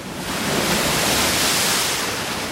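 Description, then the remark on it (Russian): A stormy sea roars with a dense, steady wash of high, crashing waves, loud, filling the whole stretch without a break or any voices. “Но вот перед ними море, бушует, шумит на просторе, а в море высокое ходит волна, сейчас Айболита проглотит она.”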